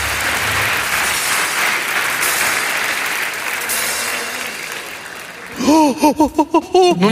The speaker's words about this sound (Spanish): Dale, muchas gracias, oledora. Un aplauso para la oledora. Muchas gracias.